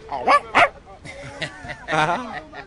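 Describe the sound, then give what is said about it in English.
A person imitates monkey calls: two quick, sharp yelping hoots, then a longer wavering cry, with softer voice sounds in between. “Yes, that's what noise they make.”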